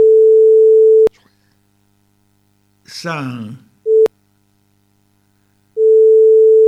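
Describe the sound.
A telephone ringing tone on the line: a loud, steady single-pitched tone that sounds in long bursts separated by silent gaps, with a brief spoken word in one of the pauses.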